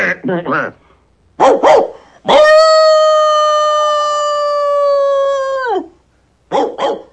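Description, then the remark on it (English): A dog lets out a few sharp barks as an alert toward a house far across the river, then a long sustained howl holding steady for several seconds before dropping off, followed by two more quick barks. Loud, with no other sounds. “barks at a house far across the river.”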